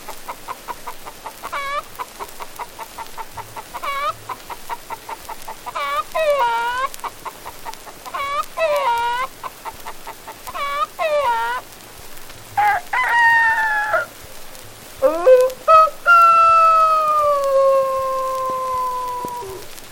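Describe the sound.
A voice imitates a hen's rapid, repetitive cackling, building in bursts, then breaks into several loud, drawn-out rooster crows near the end, with no talking.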